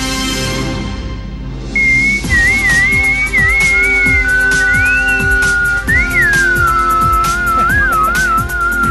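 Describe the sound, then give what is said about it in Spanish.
A person whistles a short, bouncy news jingle over a rhythmic musical backing, the tune wavering in pitch as it goes, clear for several seconds with no talking. “No sé, no sé silbar. Yo sé silbar muy flojo, no es muy útil.”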